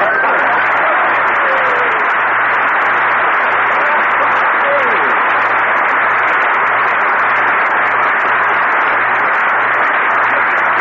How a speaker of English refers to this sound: Dude, everybody on the street is applauding. They all like Lucky Strike.